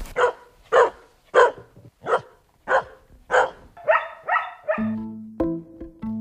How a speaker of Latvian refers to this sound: Ar radio mašīnu braucam gar lauku, kad pāri ceļam pārikšo aitu bars, un to pavada pāris rejoši kolīji. Suņi ir sava uzdevuma augstumos. Viņi aizdzen atpakaļ uz ganībām aitas, kuras bija izdomājuši iet pastaigā uz tuvējo mežu.